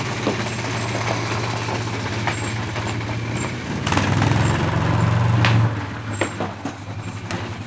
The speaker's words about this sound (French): Il y a même un tracteur qui est en train d'arriver pour larguer les tomates géantes.